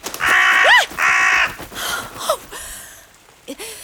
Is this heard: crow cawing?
yes